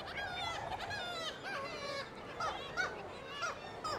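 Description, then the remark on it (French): A dense chorus of kittiwakes and arctic terns calling all at once at the foot of glaciers, harsh overlapping cries and squawks from many birds, some loud, others quieter, with no talking. “Quand il y a des nuées d'oiseaux, les mouettes tridactyles ou les sternes arctiques qui braillent, là on est dans le sonore plus.”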